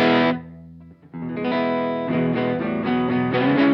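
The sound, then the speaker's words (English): Electric guitar on its middle pickup setting: a sustained chord rings out and fades, then a fresh run of ringing chords plays steadily with a touch of distortion and chorus-like shimmer, no voices. “Pickups back in the middle.”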